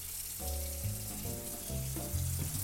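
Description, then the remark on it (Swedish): About 1 decilitre of water is poured into a hot pan to braise the food, setting off a steady, loud sizzling hiss that holds for a few seconds, with low, shifting tones humming beneath it. “Nu går jag i med vatten. För vi sa ju att vi skulle bräsera.”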